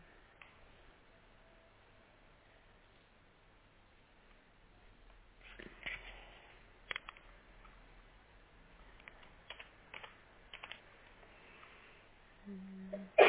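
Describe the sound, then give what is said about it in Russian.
Quiet setting with scattered light clicks and taps, then a sudden sharp sneeze bursts out loudly at the very end. “Будь здорова.”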